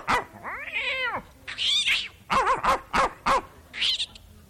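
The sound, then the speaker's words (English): A voice imitates a cat and dog fighting: a long wavering yowl and a hissing screech, then a quick run of sharp, bark-like yelps, all loud with no talking. “So you, when the folks are away from home and the kids are around, it's a lot of fun to stick the dog on the cat, but most of the time the dog gets the worst end of the deal.”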